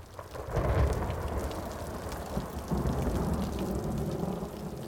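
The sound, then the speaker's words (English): Steady rain hisses down throughout on a cold January night in Aloha, Oregon, while low thunder rumbles and swells beneath it, with no voices present. “It was a cold and rainy January night in 1968 in Aloha, Oregon, a suburb just outside of Portland.”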